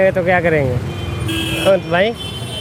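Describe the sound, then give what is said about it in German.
Busy street traffic rumbles in Old Delhi, India, with car horns tooting in short bursts and a steadier honk midway, while a voice talks over the din; a cycle rickshaw pushes through dense traffic of pedestrians, other cycle rickshaws, cars and trucks. “Er muss sich durch den dichten Verkehr auf der Straße geradezu wühlen.”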